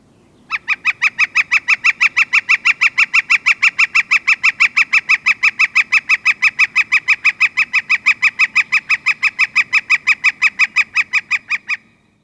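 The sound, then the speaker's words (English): A woodpecker's raucous call rings out as one long, rapid series of identical harsh notes, evenly paced for about eleven seconds, loud with no voices. “That raucous call you just heard is from one of the birds we love to see in late summer and early fall.”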